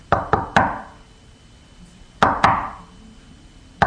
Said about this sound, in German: Plötzlich klopft es an der Tür.